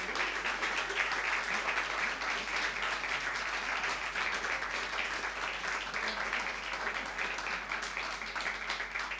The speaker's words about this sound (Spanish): Así que un aplauso para ustedes por haber venido, por haber estado apretados.